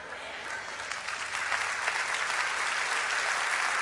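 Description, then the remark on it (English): A large audience at an in-person service claps steadily and densely, the applause building slightly and holding at a sustained, fairly loud level throughout, with no clear talking over it. “Clap, you monkeys, clap!”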